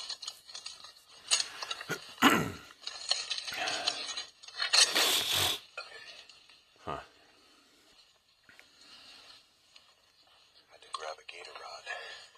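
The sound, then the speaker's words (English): A door hinge creaks and scrapes in several uneven bursts, harsh and high-pitched, the loudest two in the first half, followed by quieter squeaks and rustling, with voices faintly underneath. “Oil that door.”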